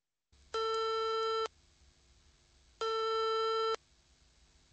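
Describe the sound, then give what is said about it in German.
A telephone ringback tone sounds twice, each steady buzzing tone lasting about a second with a pause between, heard clearly and alone over faint line hiss. “Am Telefon.”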